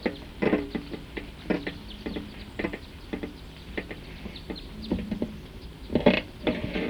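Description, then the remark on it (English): A type 2 bird calls repeatedly in short, sharp notes, a steady series of quick chirps with a louder burst near the end, with no voices present. “So recording that same bird, type 2, is still here. That's the bird.”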